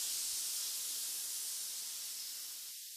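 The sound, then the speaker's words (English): A person exhales in one long, steady hiss, imitating a snake as a breathing exercise. The breathy sound is continuous for about three seconds, tapering off slightly at the end. “1, pretending to be a snake. 2, long and tall. 3, and now out like the snake you are.”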